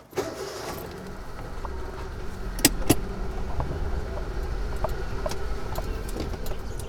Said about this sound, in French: Juste à côté, il commence une longue, longue queue de voitures. Mais un après l'autre, 1, 2, 3, 4, 5, 6, 7, 8, 9, 10, 11, 12, 12. La majorité des voitures sont très neuves.